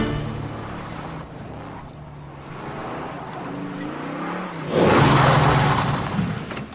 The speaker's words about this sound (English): Spencer rams Henry's car with his and pushes Henry's car down into the exposed footers of the house's foundation, impaling it.